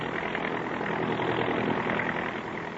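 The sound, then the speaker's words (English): A giant transport plane's engines roar steadily on takeoff out of the Omaha airport, westbound on a night flight: a dense, continuous low drone with a broad rushing hiss above it, holding loud and even throughout with no voices. “But her sharp little eyes are alive with excitement as she peers out the window of a giant transport roaring out of the Omaha airport westbound on a night flight.”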